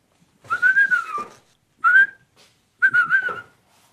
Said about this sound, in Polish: Pan tu będzie gwizdał.